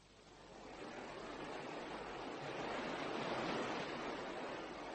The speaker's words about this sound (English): The river's a wonderful sight on nights like this, foaming away in the moonlight.